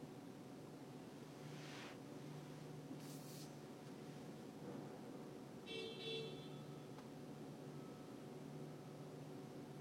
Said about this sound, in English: People fucking honking behind me and shit of this truck that's blocking this shit.